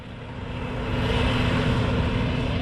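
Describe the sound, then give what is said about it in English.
A harvester slowly mows a nearly 2-metre-tall hemp crop at Campbelltown in Tasmania's northern Midlands, separating the oil-rich seed from the hemp heads; its engine a steady, loud mechanical drone with a deep low hum and a broad rushing noise that swells slightly and then holds. No one speaks. “At Campbelltown in Tasmania's northern Midlands, the harvester is slowly mowing down David Taylor's hemp crop.”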